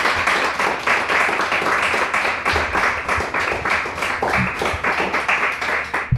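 Warm, sustained applause from a crowd, a dense steady patter of many hands clapping at full volume for several seconds with no speech over it.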